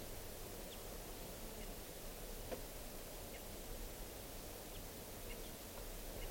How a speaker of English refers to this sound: Wild bird. And the decoys are giving alarm calls.